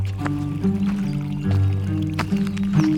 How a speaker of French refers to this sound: Quand on se promène en Aunis, par exemple, essayez d'aller chercher un ruisseau qui coule. Le bruit de l'eau qui coule dans un ruisseau, c'est très difficile.